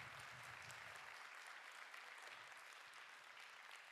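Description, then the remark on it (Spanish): Sustained applause from a sizable audience for the leaders, a dense, even wash of clapping that fills the whole moment at steady volume without voices rising above it. “Pero sobre todo, quiero darle un aplauso a los líderes que estuvieron aquí fielmente, de verdad. Denles el aplauso.”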